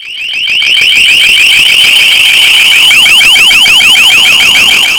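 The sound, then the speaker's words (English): A piercing electronic siren from an LRAD long-range acoustic device, bought by MoDOT to warn drivers to slow down, blares loudly and continuously, its high warbling tone sweeping rapidly up and down in a steady pulsing pattern with no voices. “It's a long-range acoustic device that blares a loud siren, like you just heard, with a verbal warning to drivers about slowing their vehicles down.”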